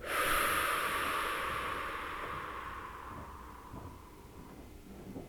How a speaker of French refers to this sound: Quand vous êtes prêt, inspirez par le nez en soulevant bien la poitrine et le ventre et soufflez doucement en les laissant bien redescendre.